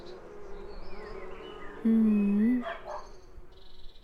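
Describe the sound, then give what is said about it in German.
A steady low buzzing of bees drones through an outdoor scene, with a brief loud humming tone in the middle and a dog barking faintly. No one speaks. “Und hör mal, das Summen der Bienen.”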